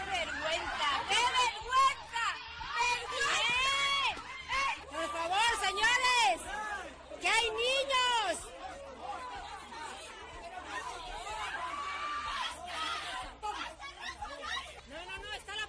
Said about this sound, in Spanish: Bueno, tremendo, la verdad, una gran pelea a puñetazos en la que participan numerosos padres de los jugadores. A muchos de los pobres niños, por cierto, les coge el enfrentamiento justo en medio.